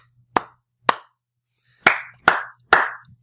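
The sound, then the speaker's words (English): Five sharp hand claps given as congratulations to a listener, Jim from Albany, California: two slow, evenly spaced ones, a short pause, then three more in quicker succession. No voices, only the crisp claps against near silence. “3 claps for the governor.”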